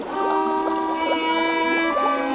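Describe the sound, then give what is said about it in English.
Sustained violin tones from a string band on the sinking Titanic warble and gurgle as if played through water, with bubbly, wobbling pitch bends running steadily for a couple of seconds, fairly loud, with no talking. “Sounds like the water's done for them too.”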